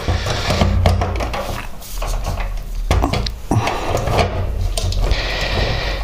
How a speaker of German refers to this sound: Wassersprudler ist zwar immer ein bisschen laut, aber auf der anderen Seite, ich muss mir ja irgendwie Getränke machen, ne?